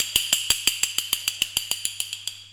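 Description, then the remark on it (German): Bones rattling from fear in a quick, even series of dry, hollow clacks, about fourteen in a row, crisp, with a faint low hum underneath. “Ich habe das Gefühl, meine Knochen vor Angst klappern zu hören.”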